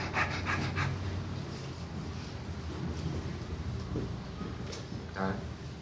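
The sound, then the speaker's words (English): Heavy, breathy panting repeats in quick, uneven gasps, fairly loud, like someone winded after hard exertion, with a noisy rumbling background throughout and no clear words. “All right, walk yourself up panting.”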